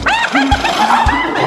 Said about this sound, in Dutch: Nou, nog één keer de hyena's.